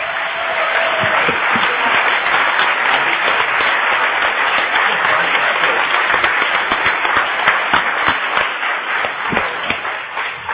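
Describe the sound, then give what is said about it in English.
A sustained burst of audience applause, dense overlapping claps at a steady loud level for about ten seconds before tapering slightly at the end. “I know how long you spent on doing this, seriously, we think he does deserve a round of applause.”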